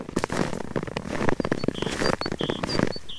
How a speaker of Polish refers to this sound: Drzwi do lasu. Pięknie skrzypi śnieg w lesie.